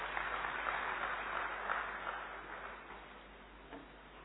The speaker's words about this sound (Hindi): दिल को छू लेने वाले सुंदर शब्दों से हम सबका स्वागत करने वाली आदरणीय अलका दीदी का भी हम जोरदार तालियों से स्वागत करते हैं।